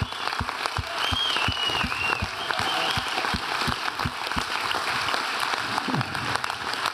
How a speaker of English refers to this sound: Yeah, why don't you guys stand up? Give God a thank. Keep clapping. Thank God for what he's done for these guys.